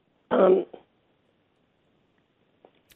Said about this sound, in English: That's okay. I'll give you just a minute to clear your throat.